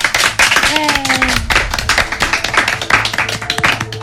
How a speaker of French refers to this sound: Les amis, je vous demande d'applaudir